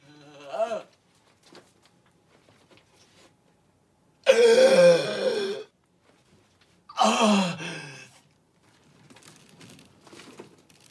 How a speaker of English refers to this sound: One of the rungs snaps off and the miner plunges to the bottom of the shaft. Gasping with pain, he raises his head off the ground.